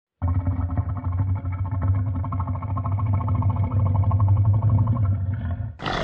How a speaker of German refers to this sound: Was sich vielleicht zwischendurch anhört wie Wasser blubbern, ist ein Nilkrokodil.